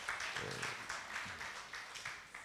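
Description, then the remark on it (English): A crowd applauds the choir steadily, many hands clapping in a dense, continuous wash with some louder pulses standing out, holding an even level throughout. “Give the Lord a mighty hand of praise again. Clap for the choir.”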